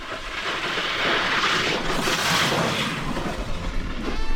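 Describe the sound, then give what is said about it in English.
Kite racers on skis and snowboards, pulled by huge kites, carve across ice in a loud, continuous rushing roar, steady, swelling slightly in the middle like a jet engine, with no voices. “The sound of their boards and skis carving on the ice sound like jet engines.”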